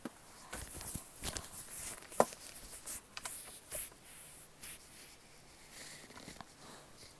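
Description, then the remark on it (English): Feet shuffle and scuff on the other side of a door: faint, irregular brushing steps with a few sharper taps, spread across several seconds with no talking. “I can hear you shuffling your feet on the other side of the door.”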